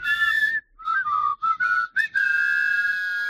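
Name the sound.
whistling tune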